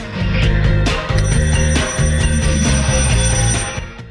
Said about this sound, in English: Marcus approaches the door and reaches out for the doorbell.